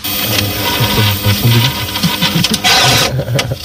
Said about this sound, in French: Le modem, ça ? Ouais, oui.